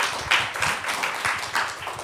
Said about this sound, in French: Bien, ben je crois que le moment est venu d'applaudir nos deux experts, de vous remercier.